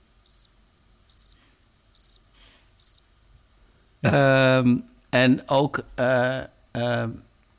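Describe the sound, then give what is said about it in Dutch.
Four short, high-pitched cricket chirps, played as a sound effect, pulse at a steady rhythm against quiet, then stop as a person begins speaking. “Ik doe even de krekels.”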